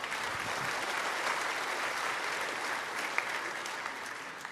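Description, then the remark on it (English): An audience claps steadily after being invited to clap for heaven, a dense, even patter of many hands that holds at the same moderate level for several seconds with no voices over it. “As I've said before, heaven, yeah, it's worth clapping for. Go ahead.”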